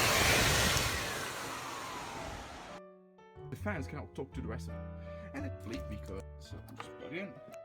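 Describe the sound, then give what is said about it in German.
Cooling fans of a Blade Center blade server chassis roar with a loud, dense rush and a whine that slides downward, then cut off abruptly; people then talk over a lower steady hum. “Blade Center Lüfter in Betrieb.”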